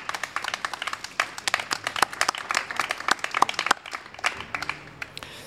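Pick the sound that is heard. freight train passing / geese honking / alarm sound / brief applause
brief applause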